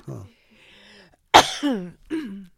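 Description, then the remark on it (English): A single cough, muffled into a shirt, bursts out, followed by short voiced, throaty sounds, with a brief low vocal murmur just before. “I'm coughing into my shirt”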